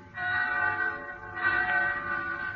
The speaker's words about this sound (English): So one night I'm in town in Pensy. Bells. I hear bells.